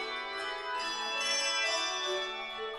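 handbell choir ringing

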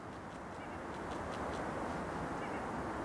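distant birds calling

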